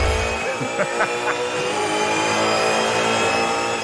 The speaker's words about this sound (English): 4 days of hotted up cars driving around Mount Panorama.